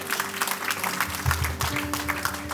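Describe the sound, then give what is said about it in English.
A church audience claps steadily after the pastor announces a considerable budget surplus, many hands creating a dense, bright patter that stays fairly loud throughout, with a low steady hum underneath and no one speaking. “Oh yeah, claps.”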